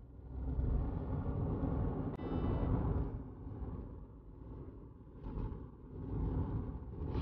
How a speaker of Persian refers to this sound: الان تو ماشینمه. خب از میبود دارم میام به طرف یأس.